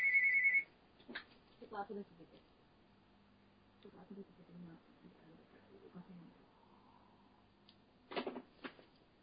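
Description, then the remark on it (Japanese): A phone's ringtone for an incoming call from the speaker's older sister chimes loudly for a brief moment at the start, then cuts off as it is silenced, followed by muffled voices and soft handling noises. “すいませんね、ちょっと電話来たんですけど、はい、ちょっと消しますので、姉からなので。”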